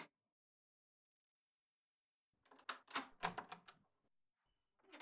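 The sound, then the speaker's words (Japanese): After a stretch of silence, a rapid cluster of sharp clicks and rattles as an apartment front door is unlocked and opened in cold weather, followed by one more brief click. “早く入って。寒いから。あ、鍵閉めといてね。”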